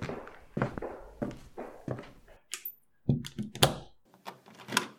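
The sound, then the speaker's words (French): Several footsteps approach on a hard floor as a count leads someone away. A door then closes with a solid thunk, followed by a few metallic clicks and rattles as he locks it with a key. No one speaks. “Le comte l'emmène et ferme la porte à clé.”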